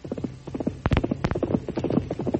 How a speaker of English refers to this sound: But on the day after that, Tonto jumped to his feet as the thunder of Silver's approaching hoofs could be heard in the distance.